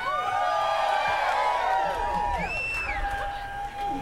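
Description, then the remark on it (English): A crowd screams and cheers together on a leader's call to scream, many high voices whooping and wailing in a loud, sustained wall of sound that rises and slides in pitch before easing slightly. “When you hear me go like this, woo! I don't care if I lose my voice tonight.”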